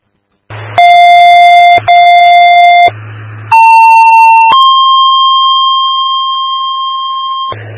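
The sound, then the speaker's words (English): Fire department pager alert tones paging Kikowski Fire and Mayville to respond to Shopko for helicopter landings: a steady mid-pitched tone with a brief break, then a pause and a higher tone that shifts into a long sustained tone, with low radio hum between them. “Just with the page for Kikowski Fire, you're needed to respond to Shopko, and Mayville again, you're needed to respond to Shopko for helicopter landings at this time.”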